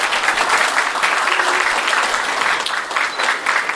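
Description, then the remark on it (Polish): An audience applauds young performers from Krzymów commune after their music, recitation, dance and theatre performances, a dense wash of many hands clapping at a fairly loud, even level throughout with no voices standing out. “Wielkie brawa dla młodych artystów z gminy Krzymów.”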